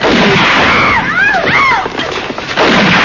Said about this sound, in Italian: Sta fermo, ti sparo!